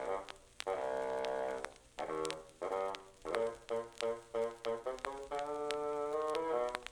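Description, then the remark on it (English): A bassoon in an orchestra plays the grandfather theme of a musical tale, a low, gruff melody that opens with held notes, breaks into a run of short, detached notes, then settles into a smoother line over soft accompaniment. “The grandfather by a bassoon.”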